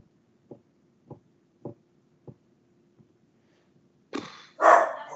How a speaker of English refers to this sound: I think there's a bark. Thank you. Well timed.